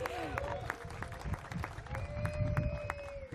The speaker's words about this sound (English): And I am, yeah, please clap. We should celebrate.